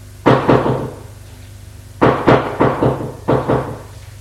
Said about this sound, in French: Frappe à la porte.